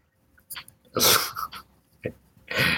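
A dog gives a handful of short, breathy bursts, huffing snorts or sneezy barks, two of them louder and longer, with brief quiet gaps in between.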